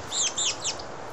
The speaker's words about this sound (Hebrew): מקסימום שקט. ציפורים בחוץ, כן.